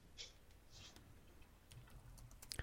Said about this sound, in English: I'm typing. I'm Googling. You're typing I'm profusely. Googling, I'm Googling. Or my goodness. I'm looking up Hillcrest Home in Arkansas so I can see how this map or how this pond looks.